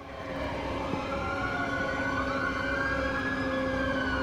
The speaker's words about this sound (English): Zoe ducks behind a pillar at the sound of the police sirens.